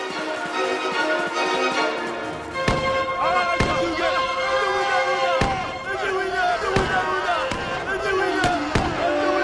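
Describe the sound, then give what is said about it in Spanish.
Five or so sharp, loud gunshots crack out at irregular intervals, cutting through a dense, continuous backdrop of raised voices and busy sound. “Los derribaron a balazos.”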